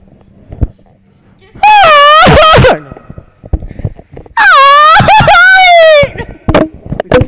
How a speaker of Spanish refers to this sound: … sí grita como jarocho. Ah, se los dije, les dije que algún día los dos gritaron.